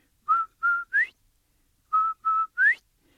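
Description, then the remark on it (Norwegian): A whistled quail call: two steady mid-pitched notes and a brighter upward-sliding third, the three-note phrase repeated after a short pause. Clear and loud, with no talking, likely a person whistling the imitation. “So old Turtle lets Quail borrow his whistle. So Quail's standing there. He makes that beautiful sound.”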